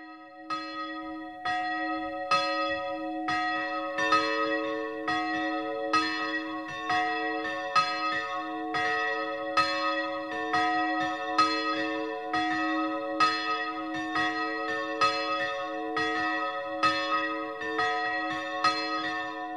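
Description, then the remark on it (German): Church bells of the Maria Kunterweg pilgrimage church in Ramsau near Berchtesgaden ring the noon chime in a steady, continuous peal, strikes overlapping in a rich sustained wash of tones, clear with no voices. “Das 12 Uhr läuten kommt heute aus der Wallfahrtskirche Maria Kunterweg in der Ramsau bei Berchtesgaden.”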